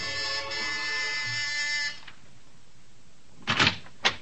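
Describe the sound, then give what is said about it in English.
At midnight, at a house on Sutton Place, a harsh, steady electric door buzzer drones for about two seconds and cuts off, followed by a brief pause and a couple of short clunks, like a door latch or lock releasing. “And you're at the house on Sutton Place, and you've got your finger on the buzzer.”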